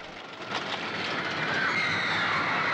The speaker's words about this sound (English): Two black cars draw up alongside the train as it comes to a stop. The crowd surge towards them.